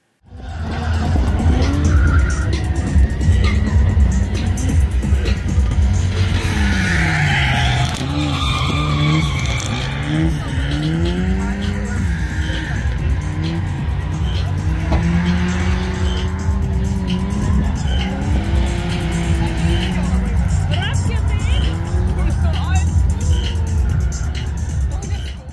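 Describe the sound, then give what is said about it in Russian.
A yellow Pobeda drift car, prepared in Latvia and competing in its first season, skids with sustained, squealing tires while its engine revs up and down in sweeping surges, loud throughout the long stretch. “Желтая «Дрифт Победа» выступает первый сезон.”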